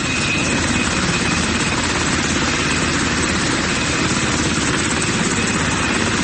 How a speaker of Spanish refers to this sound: Escuchemos un poco de ese momento del helicóptero cuando despega.